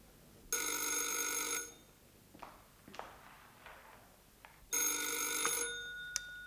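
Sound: telephone bell ringing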